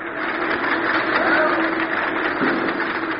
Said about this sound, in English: I'm packed from front page to want ads with the very essence of liberty. Listen to my presses roar.